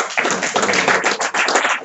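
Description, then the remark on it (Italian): An audience at a poetry reading breaks into steady, dense applause, many hands clapping together in a continuous, fairly loud wash of sound with no voices. “Facciamo un applauso.”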